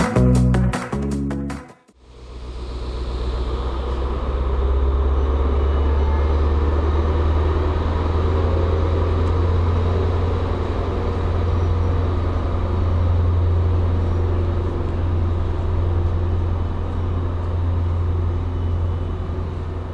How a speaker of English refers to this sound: Here in Vilnius Central Station in Lithuania, train 666 just pulled away.